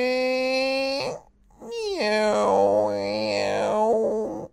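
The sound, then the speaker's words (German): A hungry dinosaur's stomach rumbles in two long, comically exaggerated groaning growls, tonal and warbling with sliding pitch, separated by a brief pause, fairly loud with no talking, during a break in team training. “Der hält seinen großen Bauch mit beiden Händen fest und lächelt. »Hast du etwa Hunger?«”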